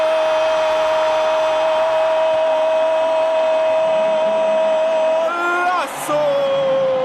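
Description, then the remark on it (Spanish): A football commentator's voice bellows one drawn-out "gol" cry in a BBVA Bancomer radio advertisement, holding a steady, ringing note for about six seconds before it wavers and breaks off at the end, loud. “Si este grito de gol duró más que tu quincena”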